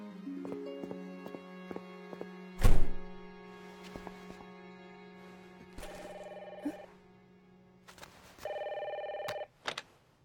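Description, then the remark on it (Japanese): A telephone rings with steady electronic tones, then a sharp clunk as the handset is lifted, followed by brief beeping tones and a short click; no one speaks. “はい、もしもし。”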